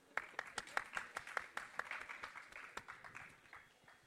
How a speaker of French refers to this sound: Bravo, bravo à tous pour l'effort. Je vous propose de vous applaudir.